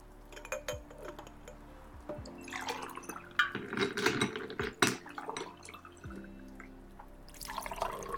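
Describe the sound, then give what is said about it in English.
Water is poured into a glass, a few seconds of splashing, gurgling flow with small drips and light clinks before and after, no talking. “Just water? Okay, I'll get that for you.”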